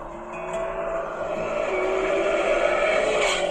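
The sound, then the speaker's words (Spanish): A Camaro sports car roars past in a video, its engine a steady, loud droning whine that builds slightly in strength over a few seconds, with a faint tire hiss underneath and no voices. “y en eso pasa un Camaro, y le apaga las velitas, dice, feliz cumpleaños, pequeño pony.”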